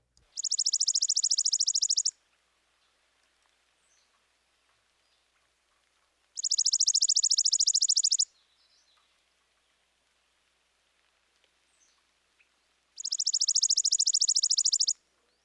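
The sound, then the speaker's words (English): A chipping sparrow's dry, rapid trill repeats three times, each a steady buzzy burst of about two seconds separated by quiet pauses, clear with no talking. “Next, the dry trill of the chipping sparrow.”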